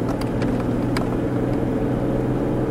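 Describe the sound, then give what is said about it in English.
A car drives steadily along a remote country road overgrown on both sides, its engine a low, continuous rumble with road noise and a few faint clicks and bumps, with no one talking. “the seatbelt already locked in place because of you driving.”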